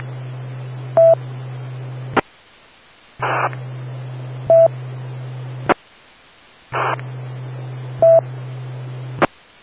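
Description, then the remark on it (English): Brief telephone touch-tone (DTMF) beeps, dialed to make a phone call, sound over a hissing, humming radio channel, the pattern repeating three times with abrupt cut-offs and short silences between each burst. “Now I'm gonna make a phone call”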